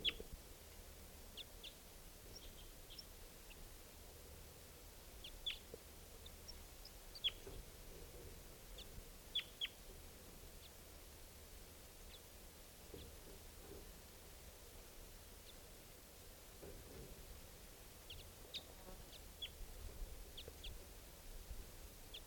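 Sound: wild birds calling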